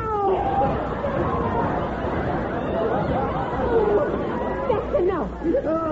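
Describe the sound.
A person imitates a cat as a 'human catwoman' act, letting out several drawn-out, wavering meows and yowls over a steady background of crowd chatter.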